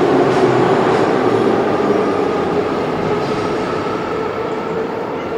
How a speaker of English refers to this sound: I also like how the doors open before the train stops.